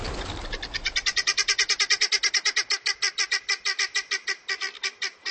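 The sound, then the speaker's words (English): A flock of guinea fowl give loud, harsh alarm calls, warning the flock that a predator approaches, in a fast, steady chattering rhythm, dozens of grating squawks in quick succession, with no talking. “These are calls of alarm, warning all members of the flock that a predator approaches.”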